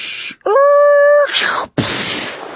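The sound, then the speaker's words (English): A human voice imitates a car accident as a mouth sound effect from Spoofco's Aluminium Collection box set: a short hiss, then a sustained high, whining screech like skidding tires, a brief break, and a loud, noisy crunching burst for the crash. “Each box set includes sounds like car accident.”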